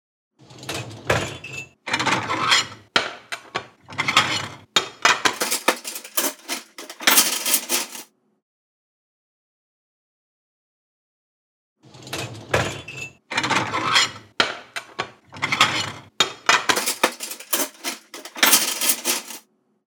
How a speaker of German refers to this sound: So klingt es, wenn ich den Geschirrspüler ausräume.